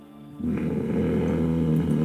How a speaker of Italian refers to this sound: Sembra un respiro, sì. Sì. Proviene dalla stanza alle vostre spalle, quindi non dal corridoio da dove siete arrivati, ma dall'altra porta.